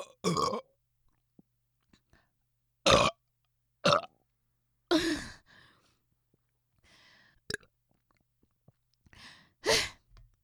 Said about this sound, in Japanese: またむせた。長いの出ない。一回一回喉を閉じちゃう癖があるのかな。開けっぱなしでゲップをする。